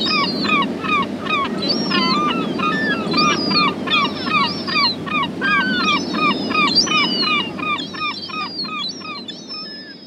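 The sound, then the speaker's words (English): A dense colony chorus of gull calls, many harsh overlapping cries repeating nonstop for the whole stretch over a steady rushing background noise, fairly loud. “This recording was made by Lawrence Shove and was made available by the British Library.”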